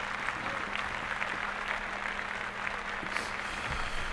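A group of people clapping steadily for about four seconds, a dense, even patter of many hands with no pauses and no voices over it.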